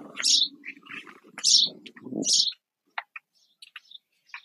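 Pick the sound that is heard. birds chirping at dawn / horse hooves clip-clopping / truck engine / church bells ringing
birds chirping at dawn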